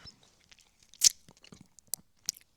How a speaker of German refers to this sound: Gott, Entschuldigung. Ich wollte runterschlucken, es hat nicht geklappt.